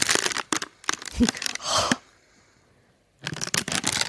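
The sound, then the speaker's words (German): Paper rustles and crumples in dry, crackling bursts for about two seconds, falls quiet for a moment, then resumes with another stretch of busy crinkling. “Papierraschelphobiker.”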